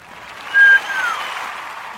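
A steady patter of clapping hands applauding a short presentation, a brief louder swell early on, then an even crackle of applause that carries on without voices.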